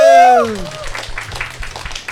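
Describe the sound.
Audience applause at a recording of the show 西坛路站着说, welcoming a new performer to the stage: a brief sustained voiced tone fades out, then the crowd claps steadily in a dense, even patter at moderate loudness until the end.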